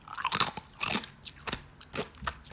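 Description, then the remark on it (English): Crisp crunching from someone chewing, a quick irregular series of brittle bites and grinding munches with no talking. “Sorry, I'm chewing my ass.”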